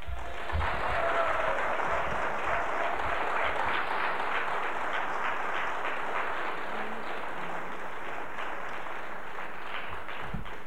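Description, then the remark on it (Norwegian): Sustained applause from an audience at a student society meeting, a dense, steady patter of many hands clapping at even loudness for about ten seconds with no speech over it. “Derimot, når vi klarer å få 2400 medlemmer til å bli medlemmer i studentsamfunnet i forhold til Rødfronts 325 i fjor høst, ja, da har jeg lyst til å berike DKSF med en skikkelig god applaus.”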